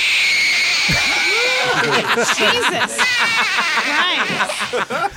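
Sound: child crying and screaming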